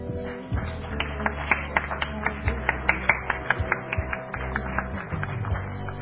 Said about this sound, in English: Amen. Give her a cheer.